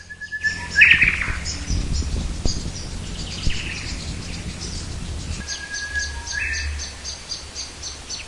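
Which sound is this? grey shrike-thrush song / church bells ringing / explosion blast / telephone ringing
grey shrike-thrush song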